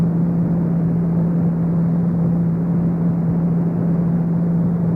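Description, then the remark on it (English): A steady, loud engine drone with a strong low hum holds evenly throughout, like jet engines idling heard from inside a cockpit, with no talking. “That's a jet for an idle.”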